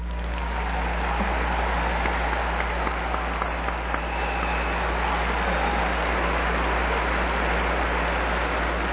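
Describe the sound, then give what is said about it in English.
A large morning crowd filling the rafters applauds the introduction of Commissioner Betty Ford, steadily for the full nine seconds, a dense, even wash of clapping with no pauses and no voices, over a low steady hum. “We all appreciate all that applause, but we have to get on with our business.”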